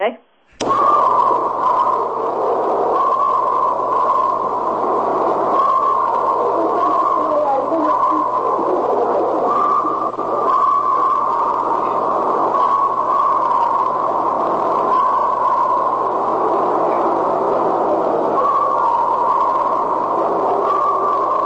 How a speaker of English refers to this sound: Blood-curdling screams again. Does that sound like Bigfoot? Well, it sounds very similar. What is that? It's a recording that I've always kept